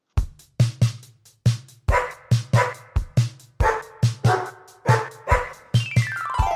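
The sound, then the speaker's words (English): A dog named Ubu barks loudly, about a dozen quick barks in a steady rhythm, over tonal, musical sounds that end with a rising electronic sweep. “Sit, Ubu, sit.”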